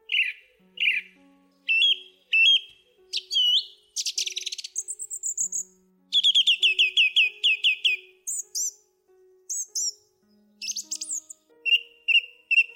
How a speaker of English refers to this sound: here is the thrush sound that Divisanula was talking about.